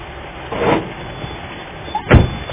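A truck engine rumbles steadily, with a brief swell early on and a solid thump, like a door closing, near the end.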